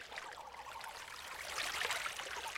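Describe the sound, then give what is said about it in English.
Steady rushing and gurgling of river water flowing, a continuous bright babble that swells slightly louder toward the end, with no voices. “Littlefoot goes to the edge of the river where his grandparents are feeding, their heads submerged”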